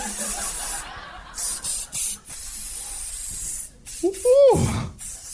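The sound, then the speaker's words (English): A can of Jean-Paul Jean's authentic cayenne pepper spray hisses in several sharp bursts separated by brief pauses as a person sprays it into their own face, then the person lets out a pained vocal exclamation right after the last blast. “Feels so good right now, I'm going to spray it right in my own face.”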